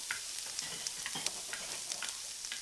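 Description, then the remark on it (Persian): A steady, crackling sizzle of chopped onions added to food frying in a pan over a lowered gas flame, with soft scraping and clinks as a utensil stirs them. Nobody speaks. “وقتی به این مرحله میرسیم پیازای خورد شده رو به غذا اضافه میکنیم، زودتر نمیریزیم که بسوزه، همش میزنیم، صبر میکنیم تا پیاز مقداری پخته بشه یا اصطلاحاً سبک بشه.”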